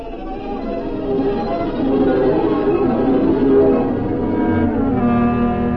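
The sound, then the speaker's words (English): Sleigh bells ring continuously for several seconds, a bright shimmering jingle with lingering tones, steady and fairly loud, with no one speaking. “what are those bells?”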